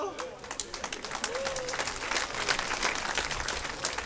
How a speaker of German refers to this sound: Normalerweise kommt an dieser Stelle wirklich ein ganz spontaner, donnernder Applaus für mich, denn so viel Schwachsinn muss man sich morgens um 10 erst mal einfallen lassen.